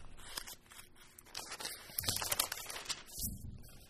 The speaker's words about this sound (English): And I've just about got the pages turned here. James 5, 7 and 8.